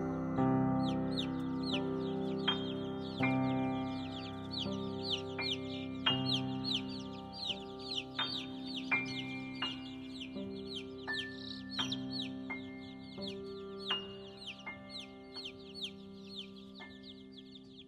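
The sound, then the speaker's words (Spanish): A hen clucks while many chicks peep in quick, steady chirps close by, all over a soft, plinking melody of sustained tones that continues throughout. “Bajo sus dos alas acurrucaditos, hasta el otro día duermen los pollitos.”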